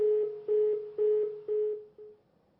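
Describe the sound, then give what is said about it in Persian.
A steady, mid-pitched telephone ringback tone pulses in a regular rhythm of short bursts as a call to a caller from Kermanshah rings through unanswered, then it fades out. No one speaks. “بله دیگه صدای بوغش هم فکر کنم مردم شنیدن، بوغ تلفن ایشون رو، و خلاصه جواب ندن.”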